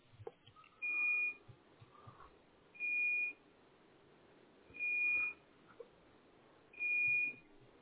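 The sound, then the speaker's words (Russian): An electronic device beeps repeatedly during a power outage, four steady high-pitched tones about two seconds apart, each lasting half a second, over a quiet background hum with no talking. “Пищится вовсю, да? Ну, электричество-то нет.”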